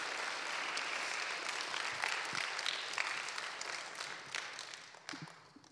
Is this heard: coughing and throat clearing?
no